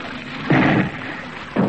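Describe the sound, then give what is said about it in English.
Naval cannon fire in a broadside from the Vizcaya: two heavy, booming blasts about a second apart, each a dense low rumble over a steady background hiss, with no voices. “A broadside, sir, from the Vizcaya.”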